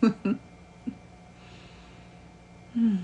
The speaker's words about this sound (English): Take a moment and feel the vibration of a great night's sleep. Ah. Wow. The very thought of it makes me yawn.